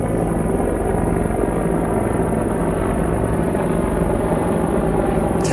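Two huge helicopters fly quite low overhead, their rotor blades beating out a rapid, steady chop over a dense engine drone. The sound stays loud and constant throughout, with no voices.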